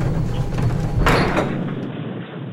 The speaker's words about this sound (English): Within the next day, there's a knock on the door at the Franklin House, LAPD juvenile detectives.